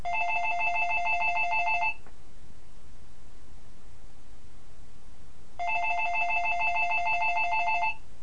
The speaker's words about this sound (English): Now answer the phone.